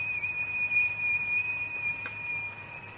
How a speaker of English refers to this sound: Oh, the kettle's boiling.